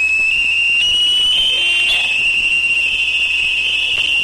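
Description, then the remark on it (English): A loud, steady high-pitched tone of active sonar pulses of 140 decibels or more from the Navy destroyer USS Shoup, used in an exercise in Harrow Strait, rings continuously on researchers' underwater microphones, with a brief swell of intensity partway through, over a constant hiss of background noise. “A Navy destroyer, the USS Shoup, was using active sonar as part of an exercise in Harrow Strait, generating pulses of 140 decibels or more.”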